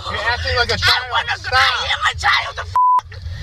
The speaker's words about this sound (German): Ich bin ein Kind, schreit das Mädchen zurück, gefolgt von einer Beschimpfung, die im US-Polizeivideo selbstverständlich mit einem Piepton überdeckt wird.